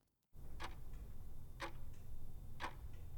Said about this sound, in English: Every day, Howard would peer out his jail cell window and see that clock ticking down the final moments of his life.